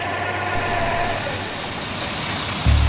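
bus engine running

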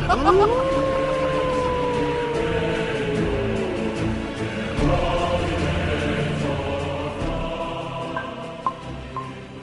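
wolves howling

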